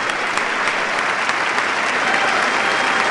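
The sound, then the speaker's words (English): A studio audience applauds an answer steadily, a dense, bright wash of many hands clapping at once with scattered sharper claps, holding an even, fairly loud level throughout without any voices. “OMG, audience, let's hear it for that awesome answer.”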